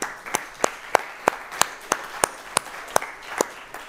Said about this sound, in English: Shouldn't we give people like that honor? Can we clap for these people?